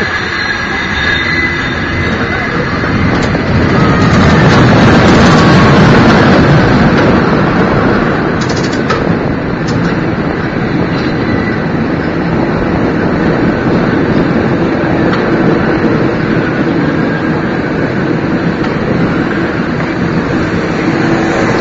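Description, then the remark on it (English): A cable car grips the cable again at the far end of an intersection and rolls along with a loud, steady mechanical rumble and grinding clatter, with a few brief metallic clanks partway through and no talking. “Grab the cable again, you'll hear him. Big grips.”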